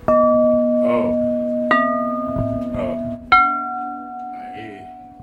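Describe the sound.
A Meissen porcelain bell, one of 35 in a carillon, a rounded cone about 30 to 40 centimetres in size, is struck three times with a knuckle, each strike ringing out as a clear, sustained tone that overlaps the next, while a person talks softly over the ringing.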